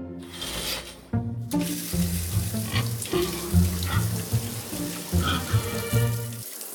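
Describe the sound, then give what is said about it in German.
Water from a running shower hisses steadily after a brief quieter start, a continuous spray with soft music playing underneath. “los, geh duschen.”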